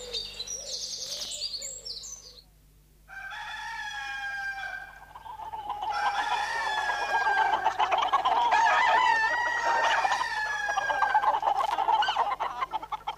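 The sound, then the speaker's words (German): Many chickens cluck and squawk on a small farm with cows in a busy, overlapping chorus, with a rooster-like call rising among them; the flock grows louder and denser after a brief lull. “Die Großeltern haben einen kleinen Bauernhof mit Kühen und vielen Hühnern.”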